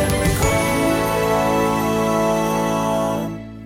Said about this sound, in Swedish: Det ringer.